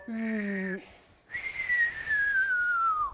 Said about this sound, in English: Or can anybody whistle yet? I don't think I could whistle when I was your age. Can you whistle?